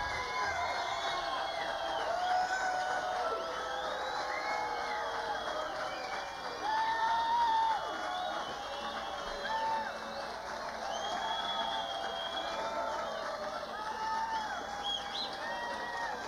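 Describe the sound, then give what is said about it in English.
An audience applauds steadily for about sixteen seconds, a dense, even wash of clapping mixed with cheering, whoops and scattered whistles rising over the crowd noise. “Sometimes we have to run like crazy to beat the applause back out here.”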